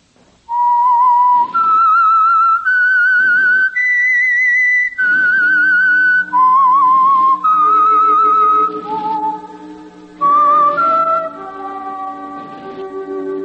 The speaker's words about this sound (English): That whistle is your signal for the Signal Oil program, The Whistler.